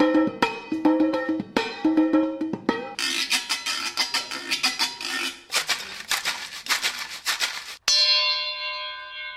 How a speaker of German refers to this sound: Bierfässchen, Gurkendosen, mit Steinen gefüllte Aludosen, Sägeblätter oder Stoßdämpferfedern. Hier nacheinander zu hören.